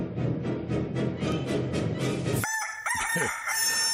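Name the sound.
rooster crowing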